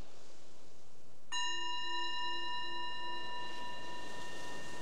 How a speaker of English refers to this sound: So the bell is the invitation to bring your awareness back to the surface, your surroundings, and reflecting on what you might have noticed, anything you might have learned about yourself.